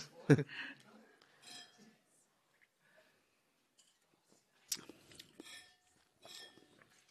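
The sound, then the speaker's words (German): Glasses from Josephinenhütte clink together in a toast: a sharp chime at the start, then a few more scattered clinks with ringing tones later, under soft murmuring voices. “Prost, ihr alle. Prost. Prost.”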